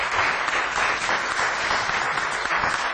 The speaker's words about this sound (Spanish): Vamos a extender este aplauso.